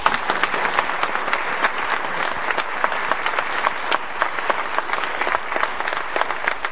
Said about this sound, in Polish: Im również Państwu podziękujcie oklaskami.